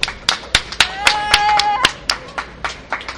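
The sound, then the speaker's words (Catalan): Clapping rings out in quick, fairly steady bursts of sharp hand claps, with a brief high whoop or whistle sliding upward partway through before the applause carries on. “Un aplaudiment!”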